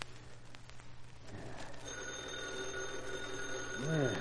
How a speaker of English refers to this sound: Holy crow, who's phoning at this hour? Why don't Reed answer?